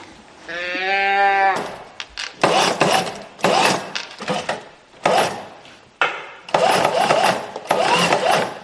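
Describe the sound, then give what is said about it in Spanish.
A teddy-bear toy made to look like the German chancellor gives one short, buzzy electronic sheep-like bleat when moved, then a sewing machine making the teddy bears starts up, whirring loudly in repeated bursts with brief pauses between runs. “Lo primero era el sonido del juguete. No lo entiendo, o sea, se me escapa. ¿Una oveja? Sí.”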